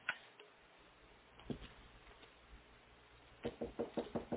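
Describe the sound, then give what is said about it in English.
A few scattered knocks, then a quick series of five or six sharp raps on a wooden door, fairly loud against a quiet, hissy background. “Come in, Frank. The door's open.”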